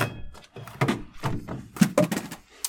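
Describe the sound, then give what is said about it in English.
A phone clatters onto the floor in a short series of hard, sharp thunks and knocks, a couple of louder impacts near the end, with no talking over it. “Oh, there goes my phone falling on the floor.”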